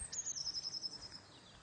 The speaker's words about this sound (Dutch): Misschien hoor je de vogeltjes fluiten zoals bij mij.